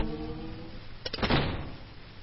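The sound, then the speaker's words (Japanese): A low steady hum, then a school clubroom door is opened: a quick click of the latch followed by a short rattling scrape that fades within a second. “部室のドアを開けると一斉に12個の目が僕の方を見た。”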